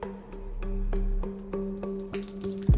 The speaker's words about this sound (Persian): پارچ آب رو برمیداره و آب میخوره.